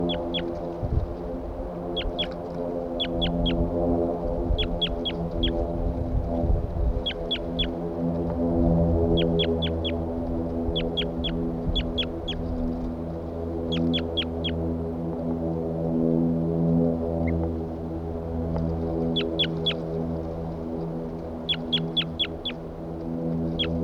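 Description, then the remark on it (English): A bird calls over and over in quick bursts of two to four short, sharp, high-pitched notes, repeated throughout above a steady low droning hum, with no one talking. “Start recording the bird again. Still calling loud.”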